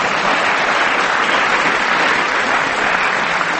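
A crowd claps steadily for a few seconds for a player after a game of Snap, a dense, continuous wash of many hands applauding at full volume with no voices on top.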